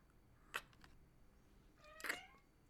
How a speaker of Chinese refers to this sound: 你猫猫都叫了，猫猫安慰你呢，猫猫也觉得没事